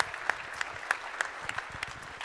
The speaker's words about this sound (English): So, thank you very much. You've got a round of applause. You head back to your seats.